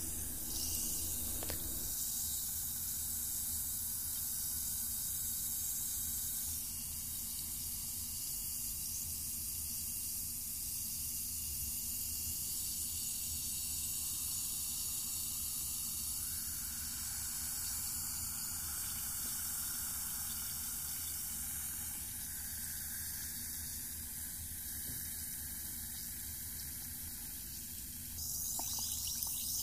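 Water fizzes with a steady hissing crackle that runs unbroken for about half a minute, holding an even level throughout with no voices over it.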